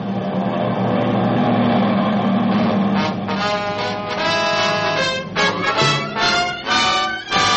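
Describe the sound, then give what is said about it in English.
A loud, steady droning roar of many aircraft engines fills the air, thick and continuous with shifting pulsing tones, as 50 to 100 planes fly overhead. “Do you hear that? Is it... Are those planes? There they are. 50. 100.”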